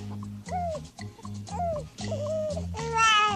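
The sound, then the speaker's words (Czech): A newborn baby boy cries in short, repeated high wails that rise and fall, loud, over a steady low musical backing. “Křičí jako tur. Je to kluk jak řípa.”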